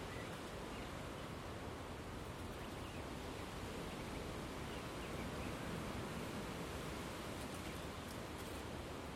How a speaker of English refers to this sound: Wow, even here, it's a very strong wind.